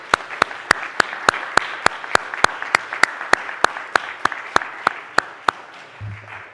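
A church audience applauds the musicians steadily for several seconds, with one sharp, evenly timed clap standing out above the wash of hands before the applause thins at the end.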